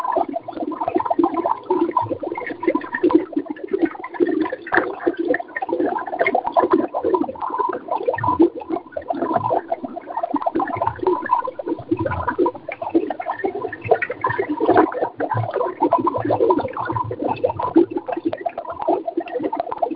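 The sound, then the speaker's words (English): Continuous bubbling and gurgling water fills the whole stretch, a dense, steady churn of bursting bubbles with no voices. “So now I'm going to introduce you to the bubbles”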